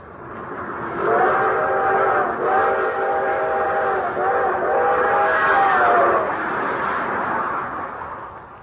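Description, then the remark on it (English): A long, drawn-out steam whistle of the 20th Century Limited train sounds over the rumble of the moving train as it speeds through the countryside, holding steady with slight pitch wavers for several seconds before fading as the train rolls on. “One thing he especially liked was the long, drawn-out whistle of the 20th Century Limited as she highballed it through the countryside.”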